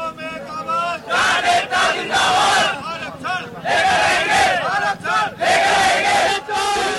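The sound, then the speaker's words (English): A large protest crowd outside Delhi, India, shouts and chants in loud, surging bursts, voices rising together in waves with brief dips between, a dense roar of many people yelling at once. “The sounds of protests outside Delhi have left 19 dead and affected the area's highway and water system to millions of people.”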